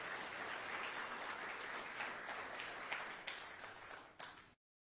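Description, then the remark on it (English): Sustained crowd applause honoring seniors after a senior video at an audience, a dense steady patter of many hands clapping that thins out near the end with a few louder individual claps before stopping abruptly. “them a round of applause.”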